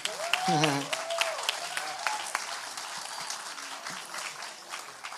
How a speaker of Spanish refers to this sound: Entonces, pues vamos a pedir que nos acompañe, vamos a orar por él. Se puede aplaudir.